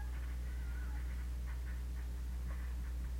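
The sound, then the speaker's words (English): A voice makes a series of short, high, squeaky calling sounds to lure a cat, repeated in quick irregular bursts. The calls are faint over a steady low hum. “And a call to summon a cat.”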